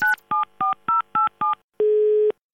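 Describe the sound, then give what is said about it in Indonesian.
A quick run of five or six clear telephone keypad beeps at a steady pace, followed by a longer, lower single tone, with no voices. “Telepon orang sampai pusing.”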